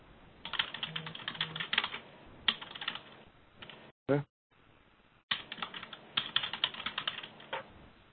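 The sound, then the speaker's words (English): Rapid, clattering computer keyboard typing by an unmuted participant in an online meeting, in uneven bursts, with a brief electronic blip and a short gap midway before the fast keystrokes resume, sounding thin and compressed as if picked up through a call. “We're hearing a lot of typing going on online.”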